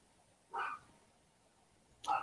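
A dog barks twice in the woods, two short, faint, mid-pitched yelps spaced about a second and a half apart, with the second cut off at the end. No one speaks.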